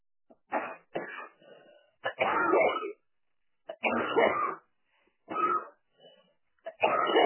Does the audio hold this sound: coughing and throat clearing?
yes